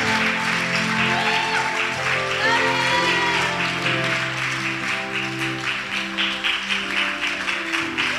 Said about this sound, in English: Come on, clap your hands until they get here.